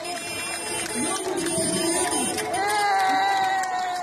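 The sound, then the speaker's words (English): A large crowd cheers and shouts continuously as a caravan of eight huge trucks carrying food from the landless workers movement rolls into downtown streets, a dense wash of voices and whoops, with a sustained horn-like tone rising out of the noise toward the end. “In this video posted on Twitter, the caravan of 8 huge trucks rolls into downtown streets amid cheering crowds.”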